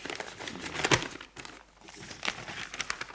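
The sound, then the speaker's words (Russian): A paper packet holding instructions is torn open, a sharp ripping burst followed by quieter crinkling and rustling of paper as it is handled, with no voices. “Конкретные указания вы получите, вскрыв вот этот пакет.”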